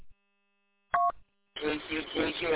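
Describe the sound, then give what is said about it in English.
A brief burst of steady electronic phone-line tones as a call comes in to radio station KCHO, then a short pause before telephone-quality voices start talking over the line. “got a phone call.”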